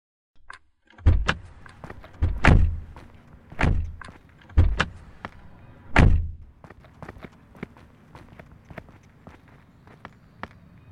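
Several car doors unlatch and thud shut in quick succession as people get out of a broken-down car, followed by shuffling footsteps and light movement as they climb out; no one speaks.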